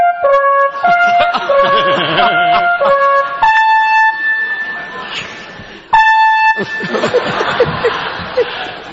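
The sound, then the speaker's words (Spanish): An electronic alarm connected to the fire department blares in loud, stepped tones that repeat in short bursts, cutting off and returning, while people laugh and chatter underneath. “Esto estaba conectado a los bomberos. Sí, es la, no, la alarma sobona.”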